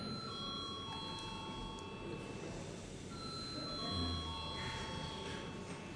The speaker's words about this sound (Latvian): Lūdzu, zvanu.